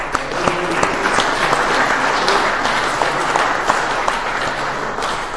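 An audience applauds steadily for several seconds for a speaker who has just finished sharing, a dense wash of many hands clapping at an even, sustained loudness with scattered sharper claps standing out.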